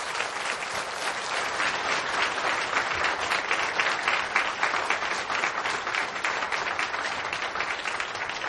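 Sustained audience applause fills the whole stretch, a dense, steady wash of many hands clapping at once, fairly loud and even throughout, with no one speaking over it, given in thanks to a church choir and its leaders after a celebratory song performance.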